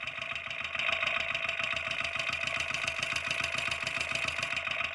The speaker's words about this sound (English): Okay, I'm taped up the mic. And turn the gas on. And I'm going to move my mic around to hear parts of the engine.